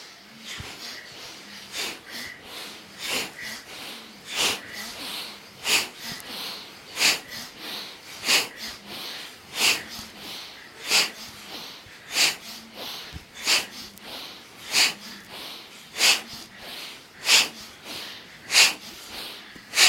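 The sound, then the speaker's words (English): Sharp, forceful breaths pushed through the nose during a breathing exercise, in a steady, fast rhythm, each one a short hissing burst, repeating about every second for the whole stretch, clear with no talking. “Breathing in, вдох.”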